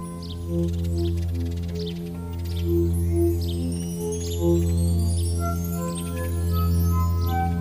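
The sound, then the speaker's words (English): Soft guitar notes played with a volume pedal swell in without any pick attack, each tone fading up and sustaining like a bowed string over a low steady drone, while bird-like chirps flutter above. “It's a guitar, but it just kind of like plays with the volume pedal and gets it to sound like a little bit more of a stringed instrument, like a violin or something, or a cello.”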